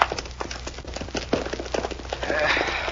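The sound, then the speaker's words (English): Hoofbeats of several ridden horses moving off at speed, a rapid, uneven clatter of hooves on hard ground, steady throughout, with no talking. “Now, get on those horses and vamos. Pronto.”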